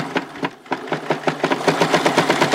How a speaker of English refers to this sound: In Bernadette's living room, Raj uses a sewing machine on baby clothes.